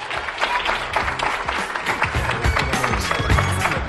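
An audience at the Ferial Plaza shopping centre in Guadalajara claps steadily for a finalist of a school short-story contest, dense overlapping applause filling the space at a fairly loud level, with faint voices mixed underneath.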